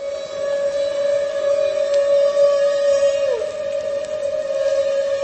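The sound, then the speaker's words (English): A humpback whale's feeding call, made while whales blow bubble nets to catch herring: one long, steady trumpeting tone that holds for several seconds and dips briefly in pitch near the end, loud and continuous over faint underwater background noise. “And at the same time, Omani says, maybe the same whale that's blowing the net, or maybe another whale in the group, we're not sure, makes these feeding calls.”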